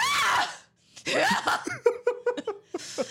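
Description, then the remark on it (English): A voice imitates their mother's loud, explosive sneeze, a sharp burst, then a second after a short pause, followed by bouts of breathy laughter. “So my mother has that same sneeze you're talking about.”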